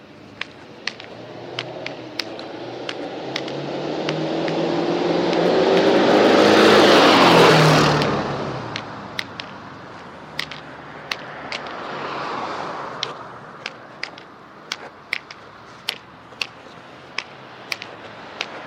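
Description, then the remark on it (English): Traffic on a busy road rumbles steadily as one vehicle swells loudly past midway and another fainter one follows, while sharp, regular ticks repeat throughout. No one speaks. “As you can probably tell, this is a bit busier of a road than we've been on.”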